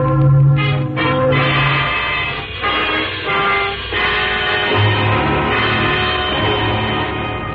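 Church wedding bells ring out on a Sunday morning in a full, continuous peal, several bells overlapping into a loud, dense wash of ringing tones with no voices present.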